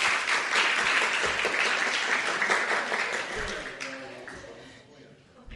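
A crowd applauds the kids in a dense, steady wash of many hands clapping at once. It holds strong for several seconds, then thins and fades toward the end.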